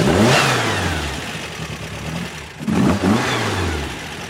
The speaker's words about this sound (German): Also nein, es ist nur ein Auspuff dran, aber der Motor hat ungefähr 140 PS gegenüber von originalen 50 PS. Aha, also ist doch ein bisschen schneller oder besser gesagt stärker. Und wir hören gerade mal, wie der tönt.